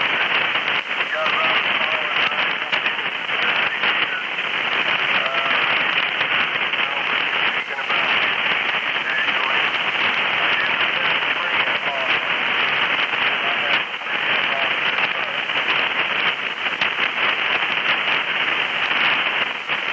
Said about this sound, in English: The static is so bad that I can't pull you out, and of all times, I really want to speak to you the most.